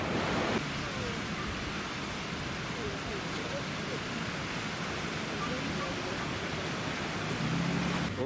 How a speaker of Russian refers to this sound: Какие волны блестят, сверкающие.